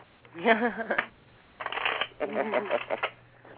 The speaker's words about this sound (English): I'm gonna shuffle my cards.